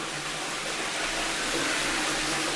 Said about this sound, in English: This one happens to be automatic. I suppose I should flush it since everybody else is flushing their toilets. To see if it actually works.